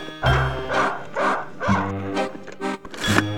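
A dog barks loudly, a quick series of about six sharp, throaty barks in steady rhythm with brief gaps between them. No one speaks.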